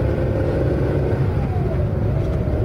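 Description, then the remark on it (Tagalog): A car engine roars loudly and steadily, its pitch climbing midway as the vehicle revs and accelerates, with a constant low rumble throughout and no voices. “Oh, dahan-dahan lang. Huwag masyadong mabilis.”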